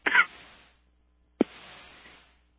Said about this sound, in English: Oh, excuse me, folks, I had to cough there.